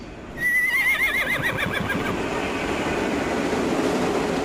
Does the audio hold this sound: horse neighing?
yes